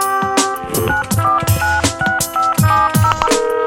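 A phone number being dialed to call Restaurant El Galliner in Bellaterra to reserve a table: a quick run of about ten keypad tones, each a short steady electronic beep at a slightly different pitch, with soft thumps beneath and no voices.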